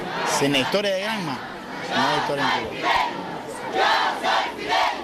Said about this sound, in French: Le convoi entre sur la place, les écoliers scandent les slogans repris par la foule qui agite frénétiquement des drapeaux. Tous tentent de filmer la scène avec des téléphones portables.